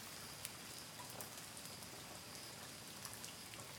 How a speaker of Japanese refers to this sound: あとね、あ、雨降ってきちゃったか。今日は晴れるって言ってたのにな。